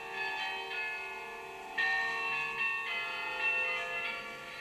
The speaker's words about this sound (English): It's Merk Toch Hoesterk, our interval signal that would announce Radio Netherlands' arrival to the shortwaves